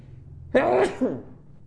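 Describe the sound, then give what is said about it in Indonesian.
A single sharp sneeze, sudden, bursts out and trails into a brief voiced tail before fading into quiet. “Alhamdulillah. Yahdikumullah islihu balak.”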